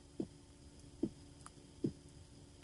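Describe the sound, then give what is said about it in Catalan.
A toy doll plays a recorded heartbeat of a real mother: four soft, low thumps at a steady, slow pulse over a faint electronic hiss, with no one talking. “i la gràcia és que reprodueix el batec del cor d'una mare real i les seves respiracions, que de fet tinc la Nina aquí i ara és el moment aquell en què tot falla, però anem a provar a veure si se sent el so del batec.”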